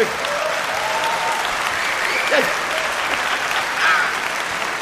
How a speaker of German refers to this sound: Müssen Sie jetzt nicht klatschen, sonst geht das alles auf die CD und dann hören Sie das in Düsseldorf und dann haben die so einen Hals.